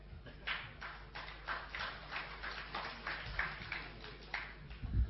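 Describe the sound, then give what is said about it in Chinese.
An audience at a xiangsheng (crosstalk) comedy show applauds thunderously for performers Kong Yunlong and Feng Kuoyang, the dense clapping swelling in a loose pulsing rhythm and carrying on for the full stretch with no voices breaking through. “感谢大家雷鸣般的掌声， 震死我了！”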